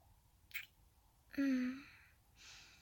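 kitten meowing

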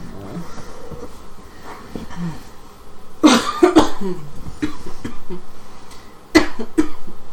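coughing

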